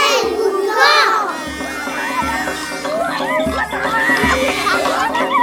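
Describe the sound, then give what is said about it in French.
A loud, dense jungle chorus of chimpanzees chattering, frogs croaking, birds calling and millions of insects buzzing, with overlapping squawks and whooping calls over a steady, pulsing low thump throughout. “Dans la jungle, riante jungle, les chimpanzés jacassent, les grenouilles coassent, les oiseaux s'égosillent et des millions d'insectes bourdonnent et butinent.”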